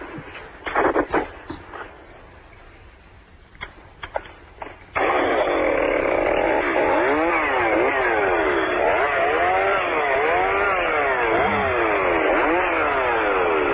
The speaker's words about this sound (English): Right, okay. There's the chainsaw.